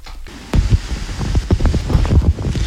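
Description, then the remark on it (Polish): Light wind gusts buffet the microphone in uneven low rumbling bursts at a dam on the San River, a few kilometres from Solina, with no voices or other distinct sounds in the outdoor recording. “Lekki wiatr na tej naszej pięknej Zaporze.”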